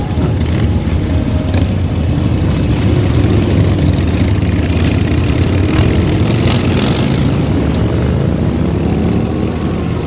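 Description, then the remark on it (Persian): A Harley-Davidson motorcycle with plate 7044 idles with a steady, heavy low rumble that stays loud and even throughout, a dense throbbing drone with no voices. “همین جاست، پلاک 7044 هارلی دیویدسون.”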